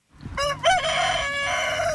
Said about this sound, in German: Ein Hahn, der kräht, gehört zum Bauernhof.